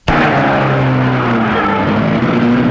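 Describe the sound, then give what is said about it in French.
A car engine starts up abruptly and runs loud for a few seconds, its steady hum drifting slightly in pitch as the car is driven up and parked in front of a waiting woman. No voices. “Et gare la voiture devant elle.”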